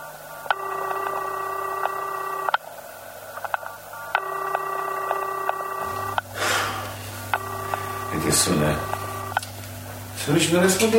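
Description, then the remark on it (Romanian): A telephone number being dialed to call home, heard as three steady electronic tone bursts of about two seconds each with short gaps, moderately loud, with rustling and faint voices toward the end. “Vezi să sună acasă.”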